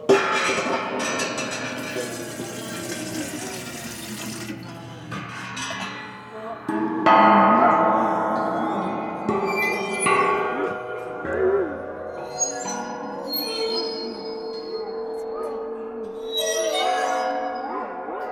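Eerie ringing tones from a waterphone, a metallic instrument holding water, with several struck notes whose pitch wobbles and bends, shimmering high overtones, and a steady, moderately loud drone throughout.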